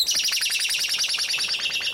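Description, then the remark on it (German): A blackbird sings alone in a fast, continuous run of bright, high chirping notes repeating evenly for the whole two seconds, clear. “Die Amsel will sie vorheben und auch die hier.”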